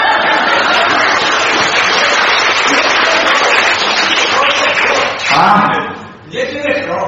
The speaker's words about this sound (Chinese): 对，鼓掌啊！